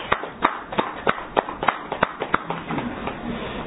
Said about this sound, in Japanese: 拍手でお祝いをしてあげてください。